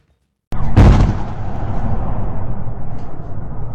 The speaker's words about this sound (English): Explosions and gunfire in the Ukrainian capital Kyiv as Russian tanks and trucks approach.